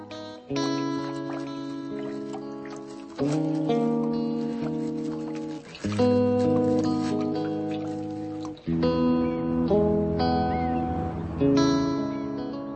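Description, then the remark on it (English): Instrumental music from the film Something Like Happiness by Czech director Bohdan Slama: slow, sustained harmonic chords that shift roughly every two to three seconds, holding a steady moderate volume with no voices. “That's music from a film called Something Like Happiness by the Czech director Bohdan Slama.”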